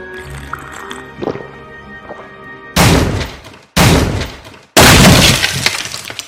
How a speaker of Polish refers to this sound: Hej, wy co wy sobie wyobrażacie? Właść tak bez pukania? Wyważać mi drzwi jakim prawem? Do cholerki jakim prawem to robicie?